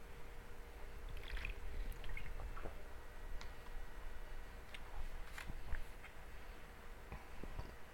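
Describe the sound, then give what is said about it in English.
A speaker takes a drink of water: soft wet sips, small clicks and a swallow or two, faint against a steady background hiss, with no talking. “Let me get a little hit of water here.”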